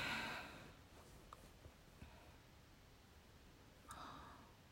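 Quiet breathy sniffles of someone starting to cry: a longer airy intake at the start, a few tiny wet clicks, then another short sniff near the end. No talking.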